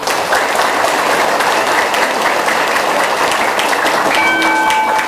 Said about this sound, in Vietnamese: Nếu quý vị thấy bốn phương diện đó, đó là rất cần thiết để chúng ta học theo, dù bất luận mình đó là có tôn giáo hay không có tôn giáo, thì hãy cho một tràng vỗ tay thật lớn.